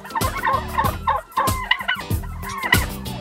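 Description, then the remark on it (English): A turkey gobbles in a rapid, warbling burst, repeated several times in quick succession over about three seconds, loud with no talking. “I really do like turkeys. I always thought they were interesting birds, but now I got to see those birds differently.”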